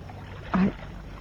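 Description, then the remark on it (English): A small boat moves through water, with a brief creaking splash standing out against a steady low rumble of water and hull. “I didn't know you could handle a boat”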